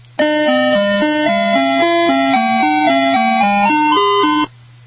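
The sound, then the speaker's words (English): A bright, tinny electronic jingle plays a bouncy tune of evenly stepped notes, an ice cream truck melody of Little Brown Jug, loud, with a low steady hum underneath and no voices. “Let's go now to number 6, Little Brown Jug.”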